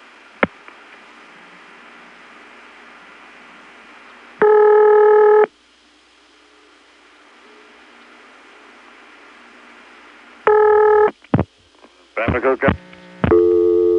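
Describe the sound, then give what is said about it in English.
Over a faint line hiss, the ringback tone of a normal call to a ringing number at the independent telephone exchange in Bayboro, an office with St. Thomas type ring, sounds as a buzzy one-second burst, then again about six seconds later, followed by clicks and a brief jumble of tones as the line answers. “Here's what it sounds like when you call a ringing number in Bayboro the normal way.”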